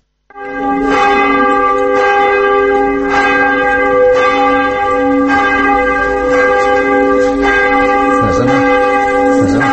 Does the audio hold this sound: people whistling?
no